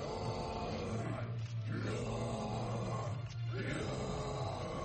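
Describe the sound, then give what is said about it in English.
Students at a heavy metal singing school practise harsh, guttural growling in three long, loud sustained bursts with brief breaths between, a rough, low-pitched roar without any clear words. “These students are learning to growl.”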